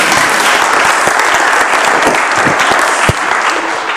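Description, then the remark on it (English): An audience claps in a sustained round of applause, dense and loud throughout with many overlapping hand claps, easing slightly near the end. “Should we give her a round of applause?”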